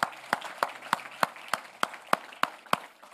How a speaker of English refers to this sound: One more round of applause for these folks.